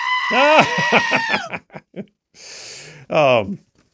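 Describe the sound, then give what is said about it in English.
A loud, wavering goat scream rings out, trailing into choppy bleats, then a brief hiss of noise and a second, shorter scream, played as a sound effect. “That screaming goat thing, I think, is my favorite sound effect, like, ever.”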